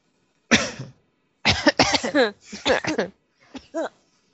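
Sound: coughing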